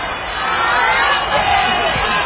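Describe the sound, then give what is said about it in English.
A crowd applauds and cheers loudly and steadily for a radio DJ about to introduce the next act, a dense wash of clapping mixed with shouts and whoops that holds at full level throughout. “Listen, we want a round of applause for our DJ who's going to introduce the next act.”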